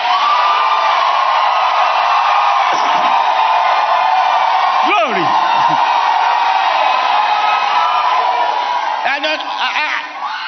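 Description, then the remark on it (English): A loud crowd roars continuously as people shout and whoop with excitement, individual rising yells cutting through now and then, with a voice calling out amid the jubilant din. “But I'm telling you, that unspeakable but expressible joy can also be exhibited, expressed in shouting.”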